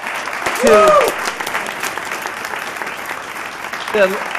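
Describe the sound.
Steady audience applause fills the space, a dense wash of many hands clapping at moderate distance, with brief voices rising over it near the start and again at the end.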